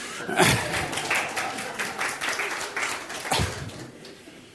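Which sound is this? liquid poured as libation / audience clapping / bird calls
audience clapping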